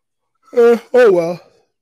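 Someone lets out a voiced yawn in two parts: a short tonal rise, then a longer drawn-out exhale that slides downward in pitch and fades. Fairly loud, with no words spoken.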